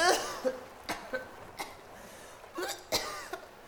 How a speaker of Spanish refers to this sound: Se echó un trago de agua salada y casi se ahoga. Salió rapidísimo a la superficie y siguió tosiendo.